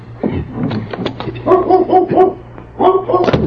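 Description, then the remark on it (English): A small dog barks in a quick series of high, yappy bursts, fairly loud, with a short pause between two clusters of yips. “That's a dog back here somewhere.”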